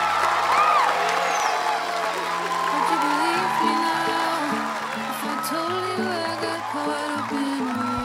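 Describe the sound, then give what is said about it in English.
A crowd of students claps and cheers steadily for about eight seconds as Jody leaves the stage, with scattered high whoops and shouting voices rising over the applause and low sustained musical tones running underneath. “Jody leaves the stage and joins the applauding students.”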